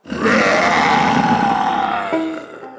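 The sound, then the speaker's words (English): A lion lets out a single long, loud roar, rough and gravelly, its pitch sliding slowly downward for over two seconds before trailing off. No one speaks. “A moment later, the lion opened its jaws wide and let out a mighty roar.”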